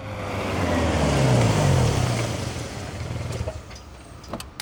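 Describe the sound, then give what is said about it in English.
A car engine rumbles amid the steady roar of heavy road traffic in Manchester as the car is driven to a conference centre, swelling loudly then slowly easing off, with a few sharp clicks near the end and no voices. “I arrive in Manchester and drive to the conference centre. The traffic is terrible.”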